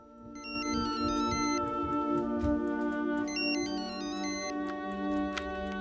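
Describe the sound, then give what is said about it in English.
A woman's mobile phone ringtone plays a bright electronic melody, repeating its short stepping phrase twice over a steady sustained tone, fairly loud, with no one talking, as she gets up to answer it. “After she's injected herself in the abdomen, she takes a deep breath and gets up to answer her phone.”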